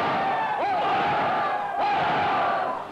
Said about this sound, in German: Wir wollen auf die erste deutsche Eisenbahn ein dreifaches Hoch ausbringen. Hoch!